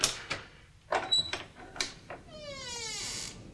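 A series of metallic clicks and clunks as a key left in the lock is turned, followed by a long, drawn-out creak of a door leading outside swinging open, fairly quiet.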